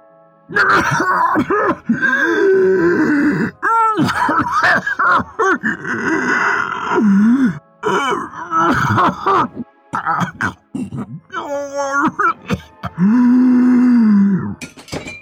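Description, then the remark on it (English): A poisoned man chokes and coughs, with strained groans, rasping gasps and hacking bursts tumbling over one another, loud and nearly continuous, growing more desperate toward the end. “His coughs and gasps grew louder.”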